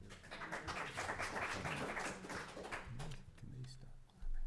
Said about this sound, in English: I know. We're not used to all this applause. Yeah, so. Throwing us off. Actually, I prefer personally no clapping.